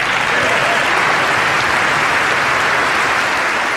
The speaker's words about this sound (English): Now, I timed the applause. We're not going to play it all because it lasts so very long. It lasts a minute and 40 seconds.